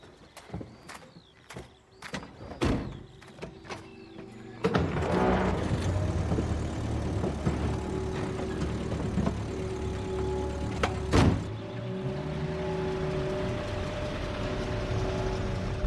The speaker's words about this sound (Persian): متاسفانه ماشین صدای خفگی میده. پمپ سوختش کمی مشکل داره.